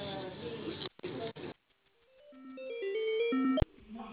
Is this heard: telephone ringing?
yes